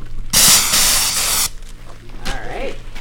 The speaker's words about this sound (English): The participants hold aerosol cans with both hands and take aim. So this is what I'm going to do. So I'm going to count down, 1, 2, 3, and then you can spray just a couple quick spurts.